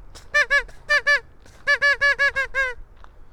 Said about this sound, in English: I need to get some more duck calls. Some duck calls that have a different quacky sound. Just so we can have some variety.